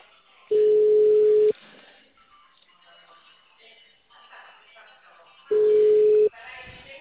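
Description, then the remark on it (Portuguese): A steady electronic telephone ringback tone sounds twice as an outgoing phone call is placed, each tone about a second long and separated by a few seconds of quiet background noise with faint background voices. “Tô ligando já pro senhor, tá?”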